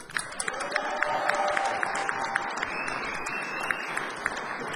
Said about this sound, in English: So, ladies and gentlemen, please give a big hand and a big cheer as he sings one of his own songs all by himself. Ladies and gentlemen, this is …. Give him a big cheer. Come on!